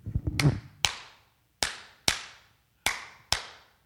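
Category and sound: human body sound, rhythmic hand clapping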